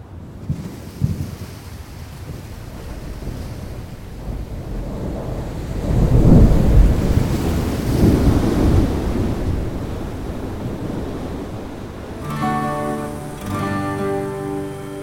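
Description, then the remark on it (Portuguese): A deep, thunder-like rumble of frequent glacier ice falls and landslides at Cerro Tronador, in Nahuel Huapi National Park, swells to a loud peak midway, then slowly fades. A steady tonal, music-like sound comes in near the end. “O nome Tronador se deve ao ruído produzido pelos frequentes deslizamentos e quedas de gelo dos glaciares.”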